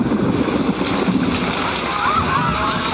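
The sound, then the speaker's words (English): Heavy rain pours down in a steady, dense hiss with constant splashing and sloshing of water, loud throughout without any break. “It started to pour.”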